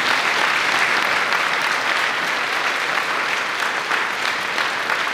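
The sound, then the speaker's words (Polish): Sustained, loud applause from a large audience for the Kortowo song and dance ensemble after their polonaise, a dense wash of clapping hands that stays steady throughout with no voices standing out. “Gorące brawa!”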